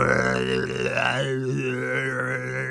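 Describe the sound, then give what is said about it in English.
A long, loud, drawn-out burp voiced by a person, a steady low rumbling belch that holds for a few seconds, strong throughout. “Then Zack signalled with his fingers, one, two, three, and together they let out a huge burp.”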